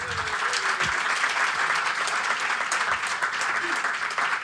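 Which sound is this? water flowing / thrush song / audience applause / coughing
audience applause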